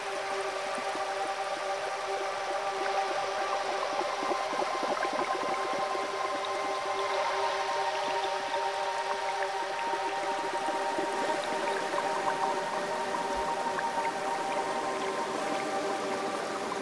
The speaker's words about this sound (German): Du kommst nun unter dem Wasserfall wieder hervor und fühlst dich wie neugeboren, frisch und klar, gereinigt.